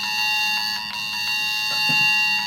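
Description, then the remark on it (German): A loud, piercing emergency alert tone from a mobile phone, set off by a Cell Broadcast warning message sent to all phones in a radio cell, sounds continuously and steadily, a harsh electronic alarm filling the whole moment with no one speaking. “Die kann dann auch einen Alarmton auslösen.”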